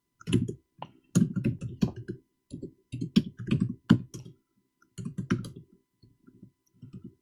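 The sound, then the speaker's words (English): Rapid typing on a computer keyboard, keystrokes clattering in uneven bursts separated by short pauses, moderately loud, with no voices. “This keyboard. What am I doing wrong?”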